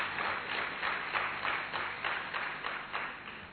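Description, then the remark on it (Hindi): A conference audience, including engineers and scientists from places such as Nepal, applauds steadily for a few seconds as a welcome, a dense wash of many hands clapping with gentle pulsing swells, moderately loud and with no voices over it. “आप सभी के स्वागत में आप सभी की तालियां आवश्यक है, क्योंकि हमारे मंच का भी स्वागत है और आप सभी का भी स्वागत है।”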